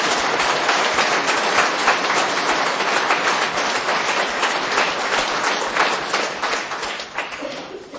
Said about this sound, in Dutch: En een heel hard applaus is op zijn plaats.